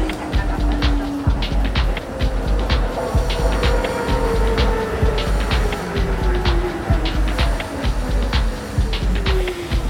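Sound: tram ride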